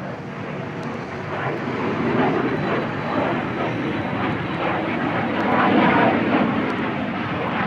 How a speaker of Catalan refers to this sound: Bé, això, l'únic que es pot dir és que és un avió que en diem vulgarment a reacció, i els entesos amb motors a reacció també s'enfadarien perquè hi ha molts tipus de motor a reacció.